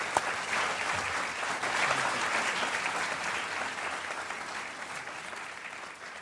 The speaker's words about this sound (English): Will you please welcome a round of applause for Ian McEwan?